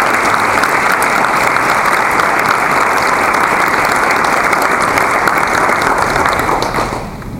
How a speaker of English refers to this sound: So would you join me in giving them a big round of applause for this excellent dinner?